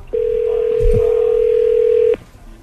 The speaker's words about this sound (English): Nick Foles was actually making cold calls to season ticket holders in Jacksonville. After he gets introduced as a Jag, he gets on the phone, starts making phone calls. Here's what it sounded like.